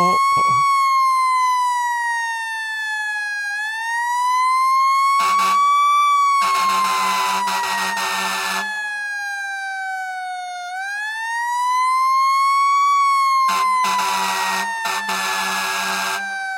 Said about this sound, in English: And the siren is already rolling.